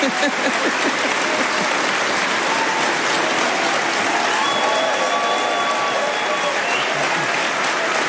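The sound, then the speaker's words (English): Sustained, loud applause from a large Conservative Party conference audience after a pledge to abolish stamp duty on homes, a dense wash of clapping that holds steady for several seconds, with a few faint cheers and whistles rising through it. “And the crowd went wild, as they used to say.”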